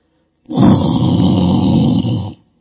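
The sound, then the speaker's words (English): A single long, loud snore, a rough rattling rumble sustained for nearly two seconds before cutting off, with no talking. “I've seen people snore loud in prayer meetings.”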